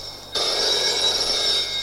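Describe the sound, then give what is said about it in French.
A telephone rings with a bright, sustained, buzzing tone that starts abruptly after a brief quiet moment and carries on steadily and fairly loud to the end, with no voices. “Téléphone sonne.”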